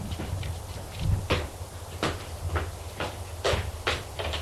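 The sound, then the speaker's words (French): A kitchen cupboard above the sink is opened to get herbal tea, with a series of sharp wooden knocks and clicks spaced irregularly over a few seconds. A low steady background hum runs underneath and there is no talking. “Trouve dans le placard la boubleau Florine.”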